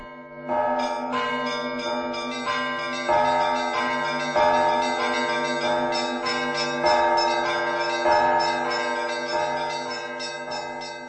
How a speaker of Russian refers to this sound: Вот и село Давыдово. Звонят колокола. Праздничный молебен в храме.